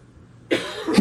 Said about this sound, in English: If I have to cough, I do this.